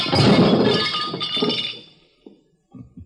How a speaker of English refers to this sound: So you smashed the lamp.